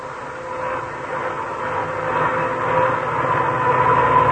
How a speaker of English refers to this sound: Now, when you hear a humming like that, you know that car has worn out gears. And probably they're worn because the owner forgot to change to winter gear lubricants when cold weather came.